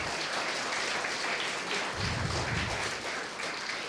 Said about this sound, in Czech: budeme naslouchat orchestru, amatérskému orchestru, který vidíte zde vepředu, a prosím váš potlesk, protože to jsou ti, kteří sem přišli.